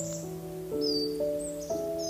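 Soft, steady leaf rustling in a forest with a few faint, brief bird chirps high above, layered over a calm, sustained tonal drone; no one speaks.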